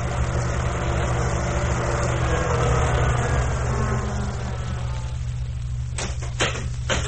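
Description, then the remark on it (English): A car engine rumbles as the vehicle drives up in broad daylight, then settles into a steady, low idle; a few sharp clicks sound near the end. No one speaks. “You think a cop would come driving up here in broad daylight like that?”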